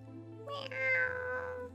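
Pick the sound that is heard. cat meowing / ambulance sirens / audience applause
cat meowing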